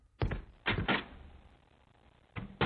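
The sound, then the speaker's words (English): A front door being opened: a series of solid clunks and knocks of a latch and handle, spaced irregularly with quiet gaps between, and no voices. “Until I have to go get the door.”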